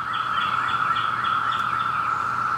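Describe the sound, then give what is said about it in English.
A dense, steady chorus of millions of Brood X periodical cicadas, emerging after 17 years underground in the eastern U.S., fills the air with a loud, continuous buzzing drone, pulsing faintly in a regular rhythm. No one speaks. “A buzzing that means Brood 10 is back. After 17 years underground, millions and millions of cicadas are emerging.”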